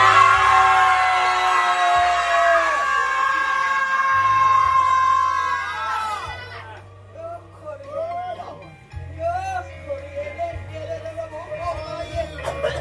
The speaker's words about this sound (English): On the count of three, I want y'all to just cut loose. One, two, three, scream!